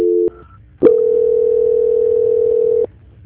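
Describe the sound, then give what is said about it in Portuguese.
A telephone call transfer tone as a Poupacred loan sales call is passed to an operator for confirmation: a brief steady tone, then a short higher beep, followed by a loud, unbroken mid-pitched tone lasting about two seconds before cutting off. No one speaks. “Só um minutinho, por favor. Transferência.”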